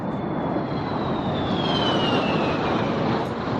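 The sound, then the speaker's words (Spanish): Two airplanes roar loudly overhead in Madrid, rehearsing for the October 12 Hispanic Day air parade, a dense, steady engine rumble with a high whine that slowly drops in pitch as they pass, with no voices. “Y este es el sonido que se escucha ya en Madrid, el de 2 aviones que van a participar en el desfile del 12 de octubre, Día de la Hispanidad.”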